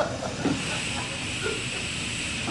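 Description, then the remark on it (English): A stationary steam locomotive hisses steadily, a constant rush of escaping steam with faint low rumbling underneath and no voices. “It doesn't look much like a royal train, does it?”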